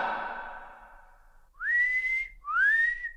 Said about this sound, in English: whistles loudly.